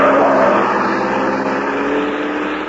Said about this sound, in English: a car with Ralph Leonard at the wheel swerves crazily around the corner